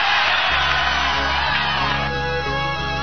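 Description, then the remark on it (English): A crowd cheers and whoops loudly for a few seconds, a dense roar of voices with shouts rising over it, easing slightly toward the end. “Go ahead and cheer.”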